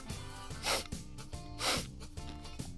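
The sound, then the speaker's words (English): Two quick, breathy sniffs about a second apart as a dog snuffles at a dog bowl heaped high with yellowish kernels, over a steady low musical hum. “I went to the dog bowl, which was heaped high with yellowish kernels, and gave it several sniffs.”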